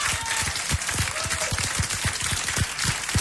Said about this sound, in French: …, sous vos applaudissements, qui emporte donc le deuxième prix du public de ce 14e tremplin Pichon.